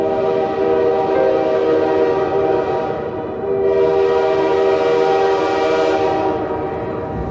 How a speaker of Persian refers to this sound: قطار می رود و تو مرا با خودت برده ای.